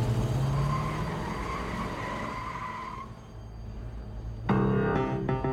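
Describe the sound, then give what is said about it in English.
A Buick getaway car's engine rumbles while a sustained, high tire screech wails for several seconds as it speeds away with hostages standing on its running boards, then fades before a loud, harsh burst of revving at the end. Fairly loud, no voices. “The gang pulls the hostages to the getaway car and forces them to stand on the vehicle's running boards before the Buick screeches away.”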